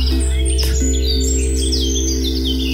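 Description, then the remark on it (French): Birdsong of quick, repeated high chirps and trills fills the whole stretch, over a steady low droning hum; no one speaks. “En poésie et en chant d'oiseau,”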